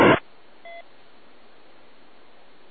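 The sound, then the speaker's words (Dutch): A brief burst of loud static, then a single short electronic beep from a handheld radio's built-in three-minute timer, fairly faint, followed by a steady low hiss of open-channel noise. “Ik zit het met mijn e-com-portofoontje en die heeft een timer ingebouwd van 3 minuten voor die staat.”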